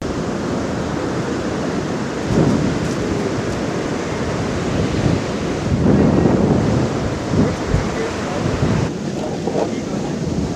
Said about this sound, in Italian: Queste sono le onde che si sentono sulle spiagge della città più grande del Pakistan, Karachi. Si trova sulla punta meridionale del Pakistan, proprio sul Mar Arabico, in un paese con circa 1000 chilometri di costa.